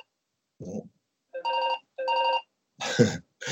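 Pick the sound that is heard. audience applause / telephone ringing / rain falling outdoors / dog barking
telephone ringing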